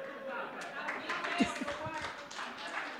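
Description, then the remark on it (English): An audience claps as a speaker finishes a sermon, in a dense, steady patter of many hands lasting the whole stretch, with a few sharper louder claps and faint voices mixed into the applause. “Did you not hear a word I just said? Do not clap me.”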